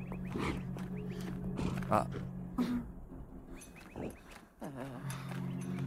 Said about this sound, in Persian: صدای غرش خرساست.